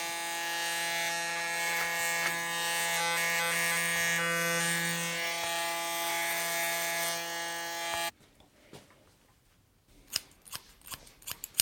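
A cat litter box being cleaned by Pétrolette: a steady, buzzing motorized whir runs for about eight seconds, then cuts off, leaving a few scattered scratchy clicks and rustles. No one speaks.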